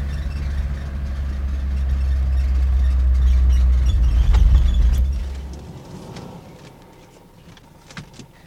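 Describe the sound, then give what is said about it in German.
A car engine rumbles steadily, swelling slightly as the car pulls right into a parking lot, then cuts off and fades into near quiet with a small click at the end. “Fahr mal rechts auf dem Parkplatz da.”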